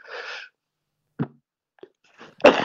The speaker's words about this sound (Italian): Una tossaccia.